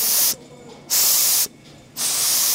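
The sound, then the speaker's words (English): A steam iron on a large steam bed hisses in three loud, sustained bursts of bright, airy steam, each lasting about half a second with brief quiet gaps between them, with no talking. “when you were finished making your prototypes or knitting your samples, you would bring them over to the large steam bed and you would take the iron and then steam the sample to relax it and see what the finished garment would look like.”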